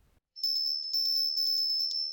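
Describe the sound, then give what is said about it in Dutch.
A small bell rings without pause for about two seconds, a bright, high, sustained tone that pulses rapidly as it is shaken, with no voices. “Ja, het belletje van Mira.”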